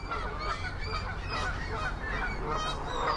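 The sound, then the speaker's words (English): A flock of geese on Belle Isle near downtown Detroit honking, their loud nasal calls overlapping and repeating constantly over a steady outdoor background, with no one talking. “On a nice day, come to Belle Isle near downtown with your kids and feed the geese.”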